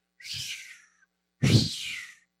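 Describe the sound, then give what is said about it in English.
A red hawk gives two harsh, whistling screams, each starting high and sliding downward with a raspy edge, separated by a short pause. The second cry is louder. “Red hawk is a whistling in the heavens.”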